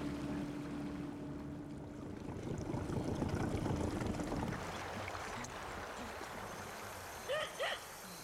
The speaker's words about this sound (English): The waters are pale gray, almost invisible in the last light of day. A long dugout boat slaps across the Rio Aurico, the river of rich water, bringing us from the oil boom town of Dureno to the Cofan village of the same name.